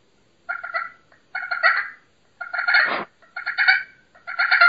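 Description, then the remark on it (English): A Primos Crystal "The Freak" slate pot call is worked to make raspy, turkey-like yelps in five close, loud bursts with short pauses between them. One burst ends in a lower scratchy sweep. No one speaks. “I like a slate because you can purr on it. You can cluck on it. You can yelp on it.”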